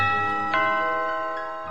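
A doorbell rings with bright, bell-like chime tones: one struck note rings out, a second joins about half a second later, and both decay slowly with no voices present.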